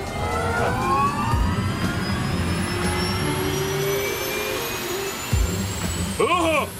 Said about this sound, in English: What was that? Yeah, that was just the engine starting.